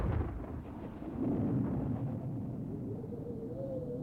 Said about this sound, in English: Take cover. There's a storm front coming.